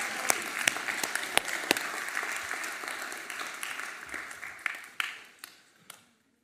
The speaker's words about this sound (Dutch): Zullen we ons mooie stel even een applaus geven? Dank jullie wel.